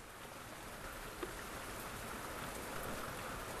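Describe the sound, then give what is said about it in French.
Steady rain falls continuously from a low, grey sky, as it has without stop since dawn: a dense, even hiss of drops with no breaks and no voices. A single slightly louder drop or patter stands out briefly early on. “Le ciel est bas et gris. Il pleut sans arrêt depuis l'aube.”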